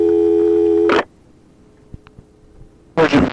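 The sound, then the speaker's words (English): A steady electronic telephone tone hums for about a second and cuts off abruptly, followed by near silence with a few faint clicks, then a sudden burst of noisy line sound. “Okay, this is the second phone call from Mr.”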